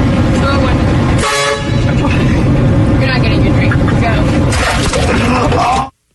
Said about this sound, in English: tried to prank a McDonald's drive-thru worker by beeping their car horn right as she was about to hand over their drink